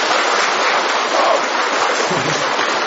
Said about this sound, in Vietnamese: Chả lẽ có điện thì mới vỗ tay, mà không có điện thì không vỗ tay được à? Không có điện vỗ tay được không? Vỗ tay còn to nữa thử coi nào.